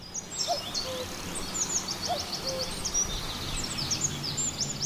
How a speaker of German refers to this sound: Müssen wir alle einmal ganz ruhig sein? Das sind nämlich die Vögel, die hier ganz fantastisch singen.